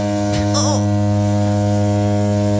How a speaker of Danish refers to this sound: fordi hans alarm ringer klokken 3:30, og det er jo ikke helt en helt almindelig alarm. Mark, han vågner simpelthen til denne her lyd, og